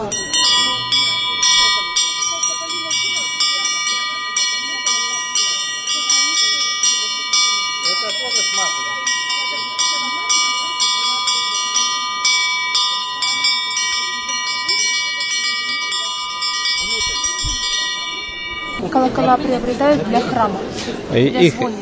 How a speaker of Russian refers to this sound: А можно вас попросить сыграть что-нибудь на, да, колоколах? Конечно, сейчас позвоним.